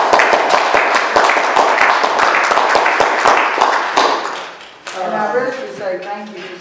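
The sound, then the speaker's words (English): A burst of lively applause at a council meeting after the mayor's report, many hands clapping in a dense, steady patter for about five seconds, then it stops and people begin talking. “And we really should applaud you”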